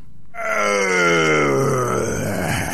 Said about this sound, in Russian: Увидал змей Горыныч Добрынюшку, бросил мертвое тело на землю, зарычал громким голосом.